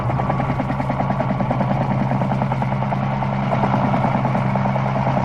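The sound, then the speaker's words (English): A helicopter engine runs steadily and loudly, its rotor chopping in a fast, even pulse over a deep droning hum, with no one speaking; it is the Scarecrow's helicopter waiting on a hill. “But our helicopter is waiting.”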